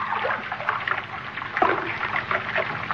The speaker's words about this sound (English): That sound. Running water. Over this way.